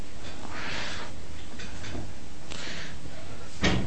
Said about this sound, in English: I'm just wondering, could you open the door a bit maybe, if it's not too drafty.